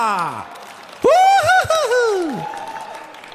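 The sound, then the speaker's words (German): A crowd claps steadily throughout after a glass is dropped, with a loud, drawn-out vocal whoop rising and falling over the applause midway before the clapping carries on. “Oh, ein Glas ist runtergefallen. Lasst uns klatschen.”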